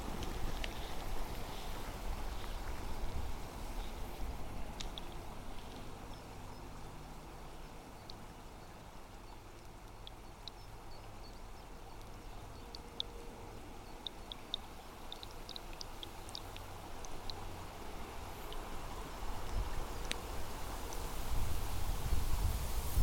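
Water flowing over a mossy weir, with the microphone dropped on top of the weir where it is only partly covered, makes a steady, low rumbling wash, dotted with faint scattered clicks and ticks, swelling a little louder toward the end. No voices.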